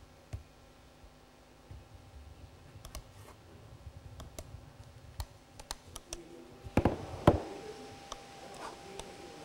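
Irregular, sharp clicks from a laptop touchpad, fairly quiet, scattered over a faint background hum, with a couple of louder clicks bunched together near the end. No one speaks.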